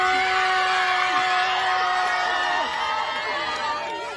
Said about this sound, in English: And just as the photo was about to be taken, they began to cheer.